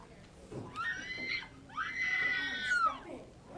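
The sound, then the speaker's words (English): A woman outside screams twice in high, shrill, drawn-out cries, the second longer than the first. The screams are fairly loud and stand alone, with no talking. “was outside and screamed.”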